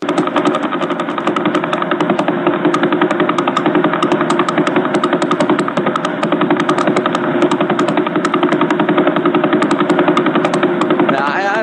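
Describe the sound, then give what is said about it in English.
A radio telescope recording of the Vela Pulsar, about 1,000 light years away, rendered as sound: a loud, steady stream of rapid rhythmic pulses forming a harsh, rattling buzz that continues unchanged throughout, with no voices. “This is what, from 1,000 light years away, the Vela Pulsar sounds like right now.”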